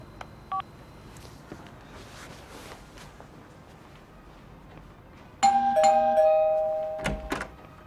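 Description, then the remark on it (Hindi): A loud electronic doorbell chime at a home's door, with someone at the door, rings out after a quiet stretch, two bright tones ringing and slowly fading, followed by a brief second burst near the end. No one speaks. “कोई दरवाजे पे है, मैं बाद में फोन करती हूँ।”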